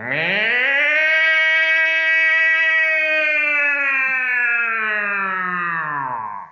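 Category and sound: signal or alarm, alarm siren wailing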